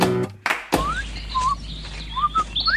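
A bird sings a series of short, bright chirps and whistled notes, several in quick succession, after a brief low tone and a sharp thump at the start.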